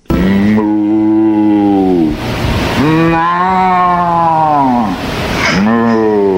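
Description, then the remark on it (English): TV host Ray Rayner, on location for WGN at the farm in the zoo, imitates a cow, giving three long, low, drawn-out moos with rich harmonics, each swelling and then sliding down in pitch before a short breath between them. “That's not the moo of a real cow. That's my moo.”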